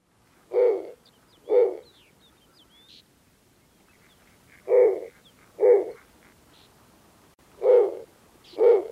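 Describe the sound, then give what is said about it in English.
Low, raspy snowy owl hoots come in three paired bursts, each a deep, rough call, separated by short pauses. Faint bird chirps sit in the background between them. Recording courtesy of the Cornell Lab of Ornithology. “Here's a sample of a song from a snowy owl, courtesy of the Cornell Lab of Ornithology.”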